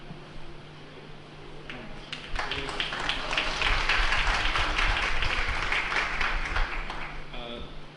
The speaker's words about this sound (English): Thank you very much. Very nice class. Very energetic. I have to, yes, let's all applaud, please.